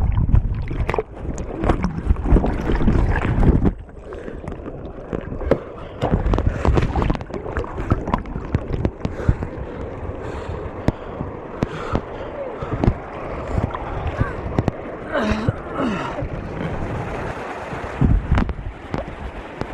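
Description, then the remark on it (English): A kayak tumbles over a weir into churning river water and the paddler falls in: loud rushing and splashing with sharp thuds and wind buffeting the microphone, steady turbulence continuing throughout. “Standing on the weir, I've just fallen in and the boat and the paddle have gone down the river and the lads are bringing it back up.”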